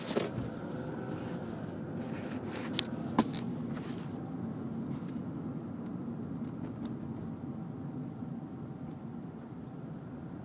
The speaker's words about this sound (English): Oh, there are a lot of cars. I just want to turn. Can I turn?